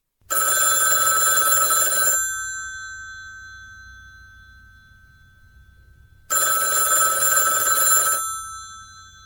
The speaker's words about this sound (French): Le téléphone. Oui, eh bien, vas-y, papa. Le téléphone à 2 heures du matin.